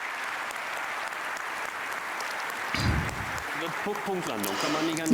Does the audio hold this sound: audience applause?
yes